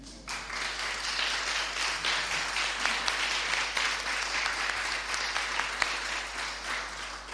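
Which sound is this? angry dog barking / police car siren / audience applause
audience applause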